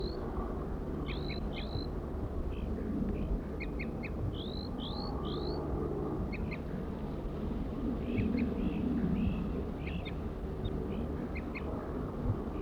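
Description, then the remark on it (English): A wild male crossbill in a Table Mountain pine gives quick, rising whistled tooping notes and short high chirps in repeated phrases in response to bird 4-3's song. It is heard over a steady low rumble of passing motorcycles. “Wild male. Wild male. Tooping to 4-3's song.”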